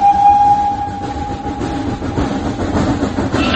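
The Blue Train, which carried the coffin of Josip Broz Tito across the country and is now a tourist attraction, rolls by with a steady, loud rumble and rattling wheels, while a thin high tone like a whistle or squeal holds through the first second before fading into the noise.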